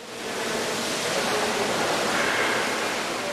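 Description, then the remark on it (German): A steady, dense rush of gushing hot spring water from the large geyser fountain in the Vridelny Colonnade in Karlsbad, shooting spectacularly upward and splashing down, holding a constant roar with no voices. “Und auch die große Sprudelfontäne in der Vridelny-Kolonnade schießt wieder spektakulär in die Höhe, nachdem das Leitungssystem erneuert worden ist.”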